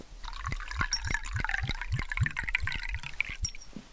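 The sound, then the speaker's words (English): Water is poured into a glass, a steady splashing stream with a quick, regular glug-glug rhythm for a few seconds, with no one talking. “Here you are, Harry, a glass of water.”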